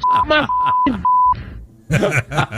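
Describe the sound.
Several steady high-pitched censor beeps cut in over a man's ranting speech about Juan Soto, bleeping out profanity, landing in quick succession with short gaps, followed by more talking.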